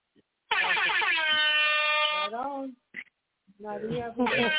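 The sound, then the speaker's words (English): Two loud, brassy air horn blasts: a long sustained honk that sags in pitch as it cuts off, a brief pause, then a shorter second blast. “Oh, I knew it was a double blast. Sound the alarm.”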